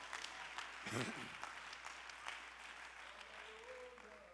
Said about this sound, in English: Clap your hands to the Lord and give God praise.